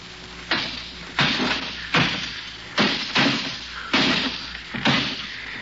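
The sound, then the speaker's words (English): Glass window panes of a house are smashed out one after another, seven sharp crashing impacts at a steady, rapid pace, each followed by a brief ringing decay. The crashes are loud, with no voices. “And we've knocked out every pane of glass in the place.”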